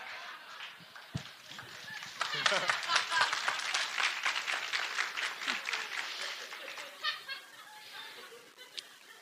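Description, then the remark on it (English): A crowd bursts into loud, dense applause after a quiet start. Many hands clap at once, then the sound thins out into scattered claps, with faint voices and a little laughter mixed in. “We put our hands together and make noise for concerts.”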